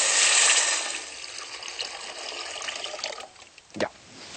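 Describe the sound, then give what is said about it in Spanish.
About six cups of water pour steadily into a cooking pot of half-cooked food with a broad splashing rush that gradually softens and thins, ending in a brief sharper splash near the end. No one speaks. “y lo que hacemos ahora, como está media cocida, le ponemos el agua y terminamos de cocer todo con el agua.”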